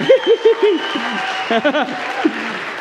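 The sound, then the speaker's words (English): An audience claps in a steady wash of applause, with excited voices whooping and calling out over the top in short bursts. “You guys give him a round of applause.”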